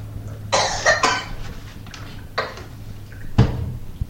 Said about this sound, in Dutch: … moet ook hoesten, hoor je dat?